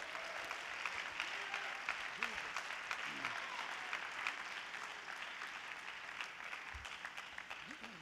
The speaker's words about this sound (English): If you believe that, why don't you clap your hands?